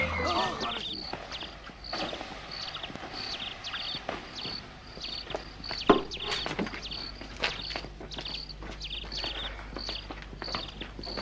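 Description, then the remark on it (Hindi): Horse hooves clip-clop at a steady, even walking pace for the whole stretch, fairly loud, with a faint background hum behind them. “मैं देख रहा हूँ कि तुम कभी घोड़े पर होते हो और कभी तुम इसे सवारी दे रहे हो।”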